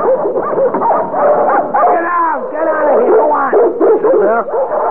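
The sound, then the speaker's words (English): A crowd of dogs bark, yip and whine over one another in a continuous, overlapping, loud chorus, with a voice talking underneath. “Oh, gee. Yeah, that would account for the dogs, huh?”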